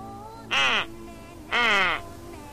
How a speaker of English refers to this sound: If you would like to hear a duck quack, press 7.